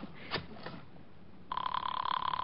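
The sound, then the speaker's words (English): A few faint clicks and rustles, then a telephone bell at the Fifth Precinct starts ringing partway through, a loud, steady, rapidly trilling ring that continues to the end. No one speaks. “I just called up to find out what happened on the case.”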